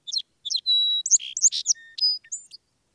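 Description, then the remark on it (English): A song sparrow sings a bright, complex phrase: a few separate opening notes, then a sustained whistle, followed by a rapid jumble of trills and buzzy chips, clear with no other sounds. “This is a great time to learn a few songs well, and everywhere along our walk at least one song sparrow was singing away to help people key in on how they start with 2 or 3 identical notes and then break into a jumble.”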